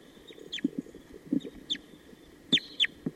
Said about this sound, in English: Sounds like there are wild crossbills coming around. Somewhere.